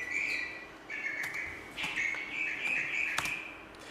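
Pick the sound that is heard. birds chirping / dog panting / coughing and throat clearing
birds chirping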